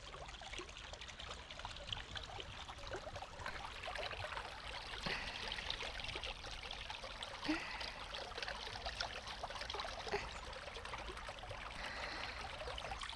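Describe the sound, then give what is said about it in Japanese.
A steady, soft rush of flowing water, like a gentle stream running over stones, continuous and even throughout with no voices, heard at a fairly low level. “上流に行けば行くほど流れが速く、勾配も急だったり、中流に行けば流れも緩やかになって、下流になると川の流れは波立たなくなります。”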